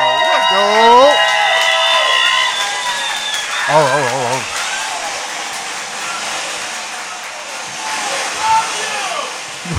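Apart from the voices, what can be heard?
audience clapping and cheering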